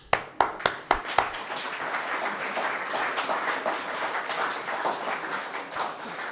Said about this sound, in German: Super, viel Mühe, Film gedreht. Zimmer aufgeräumt. Danke, Beifall.